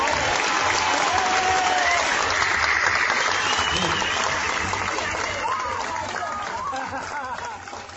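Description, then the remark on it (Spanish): Steady, dense applause from an audience at a Moros y Cristianos festival, given to the embajada group. A continuous wash of clapping holds at a loud level for the whole stretch and eases off slightly toward the end, with faint crowd voices mixed in. “Y ya para terminar, y dejaros que os marchéis a la fiesta a disfrutar, solo os podemos demandar que si os gustó esta cascada de chorradas sin parar, nos dediquéis un aplauso, cuatro palmas y ya está, a todos los que formamos el grupo de la embajada.”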